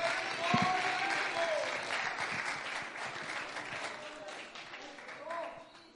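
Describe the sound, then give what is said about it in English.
An audience claps their hands unto the Lord during worship, in a dense, sustained burst of applause lasting the whole stretch, with a few voices calling out over the steady clatter. “Somebody clap their hands unto the Lord.”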